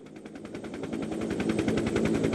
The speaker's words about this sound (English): We take off from America's main research base in Antarctica, and the helicopter takes only 20 minutes to get to Cape Royds.